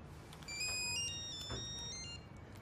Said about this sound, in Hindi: जवाब क्यों नहीं देते? क्या बताऊं, खुदा की कसम सुबह से अब तक 10 बार फोन कर चुका है। जरूर किसी ने पैसे के लिए फोन किया है। बुरी बात है, तुम फोन का जवाब तो दो, देखो कौन है।